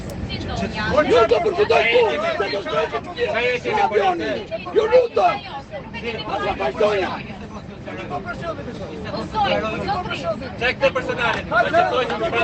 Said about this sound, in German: hinter mir in Reihe 3, die schreien sich gegenseitig an in einer Lautstärke, wirklich, es waren tumultartige Szenen, Leute. Ich habe natürlich, weil ich ein Fuchs bin, eine Sprachnachricht gemacht. Hört euch das mal an. Das war im Flieger.